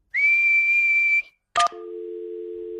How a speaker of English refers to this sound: what's whistling anyway? You put your lips together and blow. Like this.